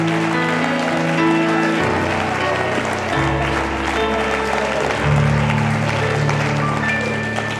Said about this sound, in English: Let's clap our hands and worship God right now. Expecting God to do a great work.